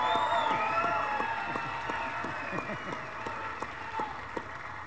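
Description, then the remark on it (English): An audience applauds for a musician, many hands clapping in a dense, continuous patter, with cheering and crowd voices mixed in throughout at a fairly loud, even level. “You know, give him a hand.”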